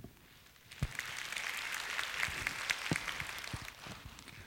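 An audience breaks into applause after a short quiet moment, a steady wash of many hands clapping that holds for a few seconds before fading, heard from a moderate distance.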